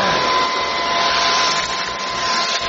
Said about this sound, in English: baby was vacuuming and he vacuumed up the pieces to the bracelet